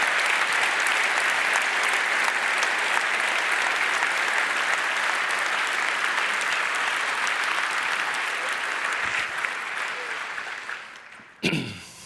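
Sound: applause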